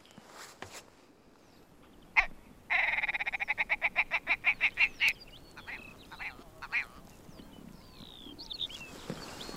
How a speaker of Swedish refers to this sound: Vad var det där för märkligt läte? Ja, men det var ju dalripan som skrattade till.